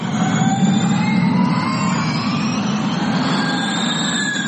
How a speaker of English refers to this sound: The traditional sounds of Formula One racing are slowly giving way to the sounds of Formula E.